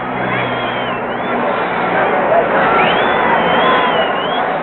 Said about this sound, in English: The terrific excitement of the crowd. And as for the noise of it, well, listen for yourselves to the Central London VJ Roar.